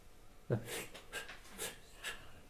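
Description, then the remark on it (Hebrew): A series of short, breathy huffs, about five in quick succession, fairly quiet, like someone panting in shallow breaths with no talking over them. “תראו כמה אתם נושמים, כלום.”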